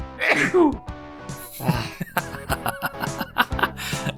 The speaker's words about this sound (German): Dein Niesen klingt, als wärst du eine Achterbahn. Entschuldigung, ich bin allergisch gegen Bullshit.